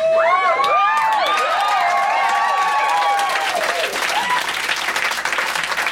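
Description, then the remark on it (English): A large crowd applauds and cheers loudly for a young man who breakdanced on stage, with high whoops and shouts rising over steady dense clapping that continues throughout. “but what we just witnessed, and I'll try and give it my best CBC play-by-play, the young gentleman on stage did in fact tear off his pants, make his way down the center of the room, and breakdance to the crowd's delight.”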